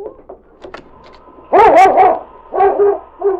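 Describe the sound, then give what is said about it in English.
A dog named King, nose to the door, lets out a few loud, harmonic barks with a wavering, whining pitch, the first burst longest, followed by two shorter ones, after some faint scuffling and yips. “King, what's the matter, boy? He's thinking of a new assignment. Nose to the door.”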